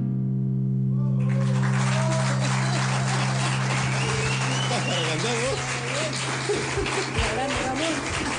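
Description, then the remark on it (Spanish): A low steady hum, then after about a second an audience breaks into loud, dense applause that continues to the end, with a few voices rising through the clapping. “Aplausos.”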